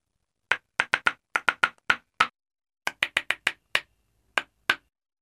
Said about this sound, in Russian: «Мы тоже умеем играть», — сказали деревянные ложки и сыграли что-то веселое.